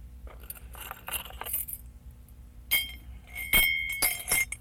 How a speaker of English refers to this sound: Put them in the cup. Make a fine noise in the cup. Can you make the keys go jingle? Can you make the keys go jingle?